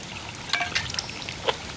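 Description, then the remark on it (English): Water trickles and gurgles steadily, with small bright drips and bubbling plinks over a soft continuous wash, muffled as if flowing beneath stones, heard by a man lowering his head into a hollow he has dug among rocks with an ice pick while searching for it. “He lowers his head into the depression he's dug and listens to the water.”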